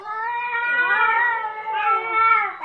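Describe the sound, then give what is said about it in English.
Ten cats meow and yowl together in a continuous, overlapping chorus of drawn-out, wavering cries, fairly loud, with no talking. “Ten cats.”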